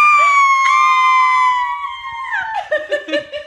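A woman lets out a long, loud, high-pitched scream that holds steady for about two seconds, then wavers lower and breaks into short choppy bursts, like laughter.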